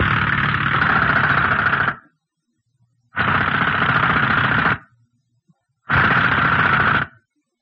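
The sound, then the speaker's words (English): A heavy drill grinds and rattles in three loud, harsh bursts of about two seconds each, separated by short silences, as it fails to cut through a basalt lava wall holding back water. “The drill. It can't cut through this basalt.”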